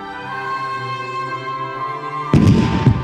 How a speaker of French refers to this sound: Soudain, un coup de canon pétaradant fait sursauter la foule.